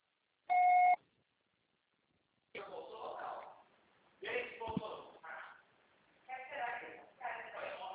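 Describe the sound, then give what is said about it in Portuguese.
A single loud, steady electronic beep from an answering machine lasts about half a second, then a short silence before a voice starts talking. “Seu acessório será tarifado após o sinal.”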